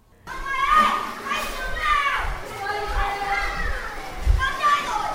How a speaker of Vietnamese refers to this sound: Thưa quý vị và các bạn, hiện tôi đang có mặt tại khu vui chơi trẻ em liên hoàn trong nhà chất lượng cao Kidland.